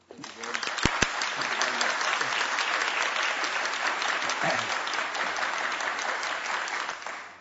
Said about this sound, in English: That applause was worth the 5 a.m.